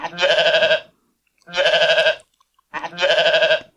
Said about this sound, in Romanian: Uite, dacă auzi behăitul unei oițe sau al unui mielușel pe câmp sau în grădină, cei care sunteți la țară, poate chiar aveți, amintește-ți că Domnul Iisus este mielul lui Dumnezeu care a murit pentru păcatele tale.